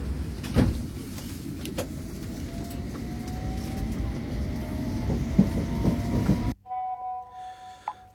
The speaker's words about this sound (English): This is Farringdon. This is Circle Line train via Tower Hill and Liverpool Street. Please stand clear of the doors.